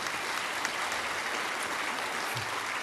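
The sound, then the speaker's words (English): A crowd applauds steadily, a dense wash of many hands clapping at once with no pauses or voices, holding an even loudness throughout. “Go ahead and clap for that if you want to.”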